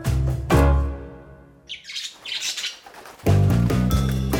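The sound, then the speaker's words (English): Loud, harsh bird squawks open and close the sequence, with a burst of high, fluttering chirps and tweets in between, with no voices. “Two white birds came to help Cinderella.”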